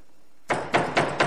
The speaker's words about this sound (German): Nun klopft es schon wieder. Wer ist da draußen?